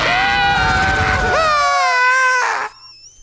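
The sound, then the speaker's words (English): A loud, sustained scream in a played audio clip jumps up in pitch partway through and holds a shrill, strained note for about two seconds before cutting off, with a faint rumble of background noise underneath. “Listen to that scream.”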